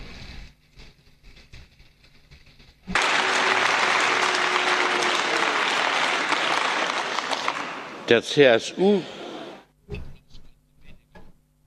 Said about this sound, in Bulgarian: Аплодисментите от ХДС можеха да бъдат по-слаби, отколкото са днес.